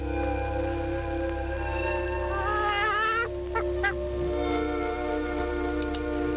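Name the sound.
hen squawking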